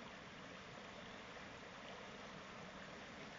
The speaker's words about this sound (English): The water flowing its way, it has its own course, its own direction.